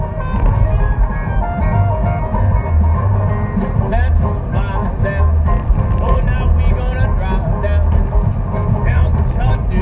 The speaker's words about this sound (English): Why is there so many cars on this road right now? This is a fucking side street. Although I'm on it. But it's 3:30 in the afternoon, like.